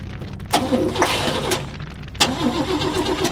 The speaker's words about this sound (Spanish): Ese mismo día habían funcionado a la perfección, pero le choca el ver que ninguno de los vehículos arranca.